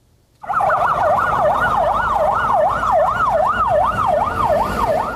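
A fire engine siren at a market fire sounds loudly, rising and falling in a fast, steady wail after a brief moment of quiet, with a low traffic rumble underneath and no voices.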